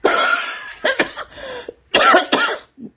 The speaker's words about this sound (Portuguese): Desculpe. Às vezes, pelo rinite, acaba dando um engasgo aqui, né? E aí que provoca tosse.